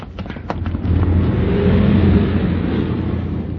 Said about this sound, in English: Hey, look out. Here comes a car. Run.